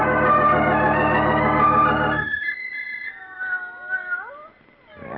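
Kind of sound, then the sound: animal, cat meowing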